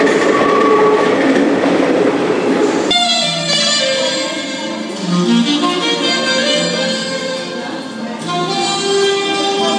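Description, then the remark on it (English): A metro train in France rumbles loudly along the rails, continuous, its broad roar shifting after a few seconds into a steady run with high whining tones layered over the clatter. “So every time the train stops, we can hear the subway performers echoing off of the subway station walls.”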